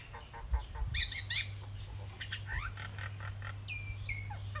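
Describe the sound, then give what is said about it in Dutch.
A small rooster with a black comb calls out on a very hot day in a run of loud, high, strained squawks and crow-like cries, several short bursts in quick succession over a steady low hum, with no one talking. “We hebben hier een kleine vogel met een zwarte hanekam die completely los aan het gaan is.”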